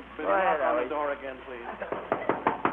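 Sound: knocking on a door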